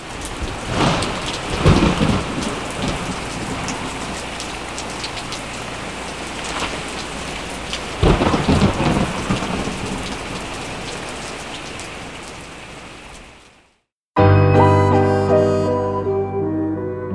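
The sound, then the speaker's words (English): Steady rainfall pours down on a cold day, with loud rolls of thunder near the start and again midway, then the storm cuts off abruptly and gentle music begins. “It is cold and rainy.”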